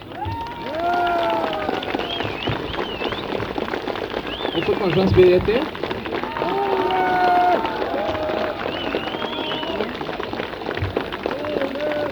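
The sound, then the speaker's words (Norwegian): A steady wash of audience applause for a musician who has played four extra numbers fills the whole stretch, dense and fairly loud, while voices talk over the clapping. “Det er verdt applaus.”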